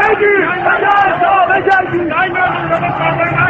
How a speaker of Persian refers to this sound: جمعیت عصبانی شعارهای تند می‌دهند.